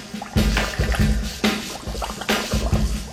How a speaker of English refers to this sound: is somebody ripping a bubbler on the front end of …?